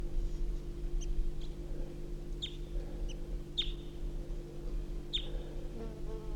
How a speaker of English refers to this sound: The male's perched up in a small juniper right next to the truck. And he's giving soft calls. Pointed at the male.